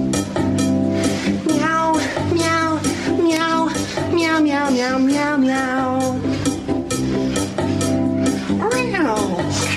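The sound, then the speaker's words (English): A man's voice imitates a cat, meowing over and over in wavering, drawn-out cries, loud, layered over a steady droning backing that runs throughout; a snippet played from a phone. “So obviously that's a long-winded version, and it's normally just the start, the meow, meow, meow, meow, meow, and it fucking works prime.”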